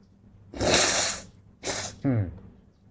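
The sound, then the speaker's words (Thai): A loud nose blowing by an old man who is unwell: a long forceful nasal blast, then a shorter second one, ending with a brief throaty grunt. No talk is heard. “ตาสั่งขี้มูกมันไม่ค่อยสบาย”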